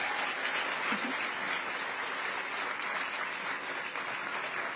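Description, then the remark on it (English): A crowd applauds the AV crew steadily, a dense wash of many hands clapping at an even level for several seconds, with no voices standing out. “A round of applause for the AV guys real quickly.”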